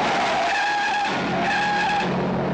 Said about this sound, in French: Voilà. Ah, merci pour ce freinage.